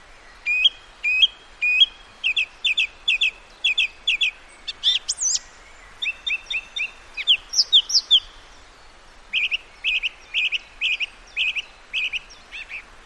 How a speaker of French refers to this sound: C'est la grive musicienne imite donc tous les autres oiseaux en 3-4 petites strophes et à chaque fois elle change.